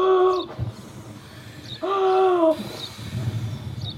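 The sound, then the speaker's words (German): A voice imitates a wolf blowing hard at a little house, with two drawn-out, breathy hooting puffs, each about half a second long and separated by a pause. The puffs are loud, with faint rustling between them. “Er fing an, kräftig zu pusten.”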